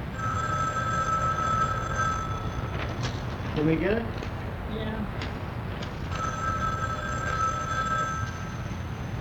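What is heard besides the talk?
telephone ringing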